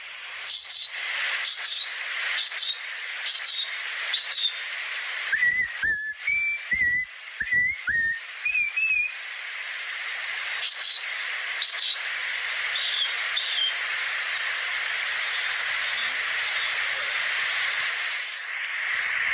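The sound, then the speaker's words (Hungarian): A local indigenous guide from around Mindo, who can imitate 50 bird calls, whistles a series of bird calls, short rising chirps and sliding notes in quick bursts, over a steady hissing background like a forest chorus of insects, with no talking. “Ő 50 madárhangot tud utánozni, és 200-at pedig megismer. De hát ezt be is mutatom most önöknek.”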